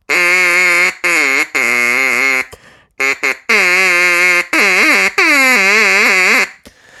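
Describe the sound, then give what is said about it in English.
A duck call blown in loud, buzzy quacking bursts, several long honks and short chopped blasts with wavering, swooping pitch, with no talking. “I'm afraid it's just going to be duck call from now on.”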